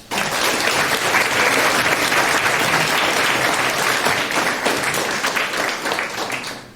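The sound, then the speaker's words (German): A crowd applauds steadily for several seconds for Political Block, a group project on recognizing and flagging fake news on the internet; a dense, full wash of many hands clapping, holding at a consistent level before tapering slightly at the end. “Von daher einen ganz tollen Applaus für Political Block.”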